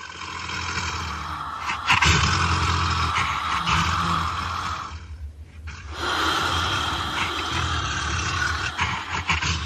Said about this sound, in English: So in September of 2006, we get the Growling Tiger.